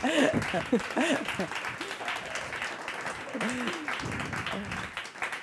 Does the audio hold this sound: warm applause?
yes